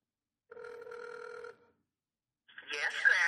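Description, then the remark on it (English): One steady, buzzy ring tone lasting about a second comes through a speakerphone as a call is placed to a grandmother, followed by a pause, then a louder, crackly voice starts speaking as the call connects. “We'll put her on speaker here and see what she has to say.”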